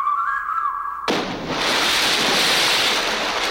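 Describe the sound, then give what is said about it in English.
A thin whistling tone holds briefly, then a sudden loud rush of water breaks in as a bird descends into icy ocean water, settling into a steady churning of ocean waves and splashing with no voices. “And descends gracefully into the icy ocean waters below.”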